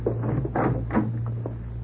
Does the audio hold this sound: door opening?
yes